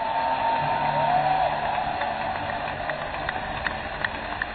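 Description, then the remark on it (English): An audience raises a steady, dense roar of shouting voices, with scattered sharp hand claps popping out over the wash of noise throughout. “Well, somebody shout and clap your hands and you may be seated.”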